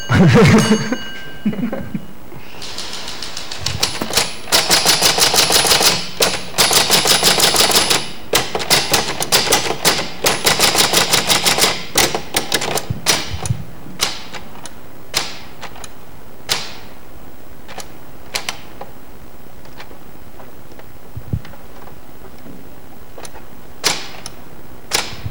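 Loud typewriter typing in rapid clattering bursts, then slowing to scattered, halting keystrokes as the keys stick when more than three letters are pressed at once. No voices.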